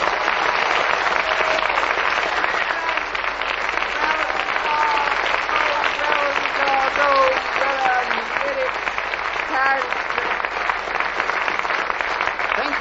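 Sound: studio audience applause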